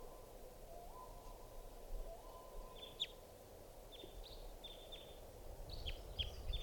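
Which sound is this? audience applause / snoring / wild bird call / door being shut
wild bird call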